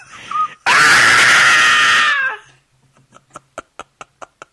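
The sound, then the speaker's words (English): A voice reenacts a loud, sustained high-pitched excited scream, let out when a batter hit the ball during a Dodgers baseball game, lasting over a second, followed by a run of short, sharp, evenly spaced clicks or taps trailing off. “And he goes up, and as soon as he hit it, I screamed like a little girl.”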